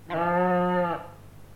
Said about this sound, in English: Sheep.